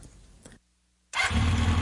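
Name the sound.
motorbike engine starting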